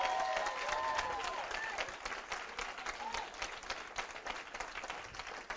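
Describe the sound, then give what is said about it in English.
A church audience in Orange Park breaks into a sustained round of applause for its pastor and bishop, dense steady clapping that lasts throughout, with a few raised voices calling out near the start before it eases slightly. “Why don't you give your pastor, your bishop a round of applause?”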